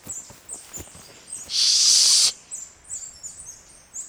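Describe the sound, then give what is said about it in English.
Birds call repeatedly in short, high chirps scattered across the scene, interrupted midway by a loud, steady hissing burst lasting under a second. No one speaks. “I haven't heard birds in...”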